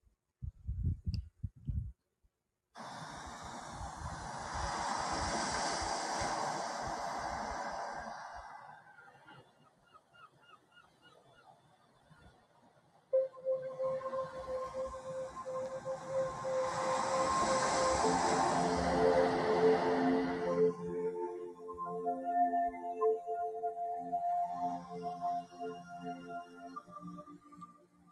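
Soft, swelling washes of watery noise rise and fade like slow underwater surges, later joined by long, wavering tonal calls drifting through the calm ambience. No one speaks. An underwater ocean ambience played for a guided meditation.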